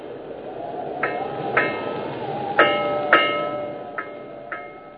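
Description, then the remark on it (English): A bell tolls slowly and steadily in cold, wet fog, six strikes in pairs with ringing overtones that linger and fade, over a dull, rumbling background. “And you hear, through this gray darkness, this wet, wet tolling, the dankest, dismalest bell in all the world.”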